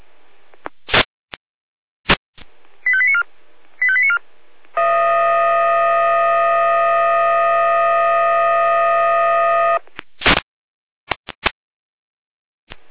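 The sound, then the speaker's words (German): Jena fire brigade dispatch radio alarm (Einsatzalarm) over a narrow, tinny channel: two quick bursts of short beeping tone sequences, then a long, steady, buzzy alarm tone lasting about five seconds, framed by sharp radio clicks. “Ja, natürlich, Jena mit Einsatzalarm.”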